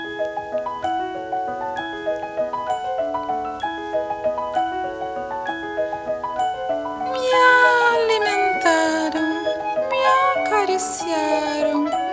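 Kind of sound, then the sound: animal, cat meowing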